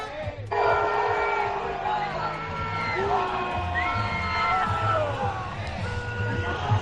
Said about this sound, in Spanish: con una gran cantidad de manifestantes apoyando a Palestina y que al grito de no es una guerra acompañan la marcha de los ciclistas.